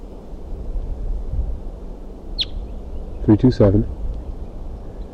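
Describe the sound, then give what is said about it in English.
A single sharp, high call note from a female crossbill that has flown up to a tree, cutting through a steady low wind rumble as another wild crossbill comes in, followed moments later by a brief burst of a voice talking. “She's calling, and there's another wild crossbill coming in.”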